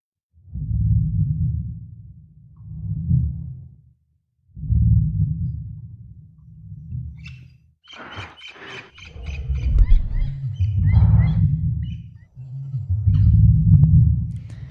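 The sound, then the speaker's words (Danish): A Tyrannosaurus rex roar and groan: several deep, rumbling growls with short pauses, then a loud screeching roar with shrill, squealing overtones that sinks back into low, drawn-out groans. “Det skulle efter sigende, vil jeg sige, være lyden af en T-Rex.”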